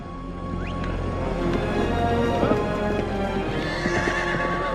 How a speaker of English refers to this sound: The Earth turns to reveal China. A man in lamellar armor rides a horse through a military encampment settled among huge stone mounds.